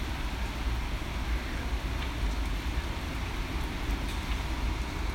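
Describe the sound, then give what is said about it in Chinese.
Steady, even rain hisses across the whole stretch, a dense patter over a deep low rumble, with no voices and no pauses in the wash of sound. “有没有听到我这里下雨了？”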